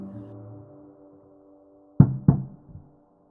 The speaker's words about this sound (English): The thought alone sent a shudder of pleasure running through him, tickled the base of his spine, but the pleasure cooled when he heard the knocking.